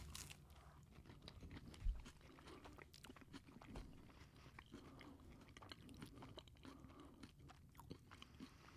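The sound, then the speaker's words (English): Continuous chewing of a soft bite of cheeseburger eaten with the mouth open, with moist smacking and occasional crunchy bites repeating irregularly for several seconds, no talking. “I can totally hear you chewing.”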